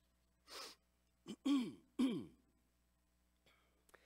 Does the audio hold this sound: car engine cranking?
no